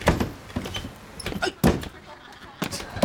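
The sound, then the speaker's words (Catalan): A door lock rattles and clicks as it's jiggled, followed by repeated thumps of the door being tugged against its frame, several uneven bursts over a few seconds. It is the stuck, locked toilet door of a wooden hut, being tried from inside by someone unable to get out. “Ella mou el pany i l'estira.”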